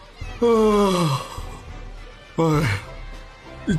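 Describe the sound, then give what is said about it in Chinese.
A voice imitates a big, drawn-out yawn of a bored goalkeeper during a school football team selection match: a long falling vocal sound, then a shorter second one, fairly loud, with a faint start of another at the very end. “学校足球队正在进行选拔赛，安琪雄作为蓝队的守门员，望着一直集中在对方球门外激烈争夺的红蓝两队，打了个大大的哈欠。”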